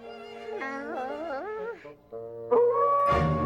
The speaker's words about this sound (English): Alvin's wide-eyed on hearing the howling at breakfast.